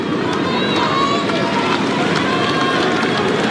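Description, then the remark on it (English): A restless tennis crowd keeps murmuring and chattering while Zverev waits to serve, a steady, dense wash of many voices that stays loud throughout without dying down. “Zverev just having to wait because, as you can hear, the crowd are not settling.”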